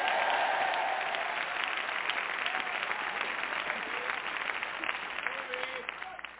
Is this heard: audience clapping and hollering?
yes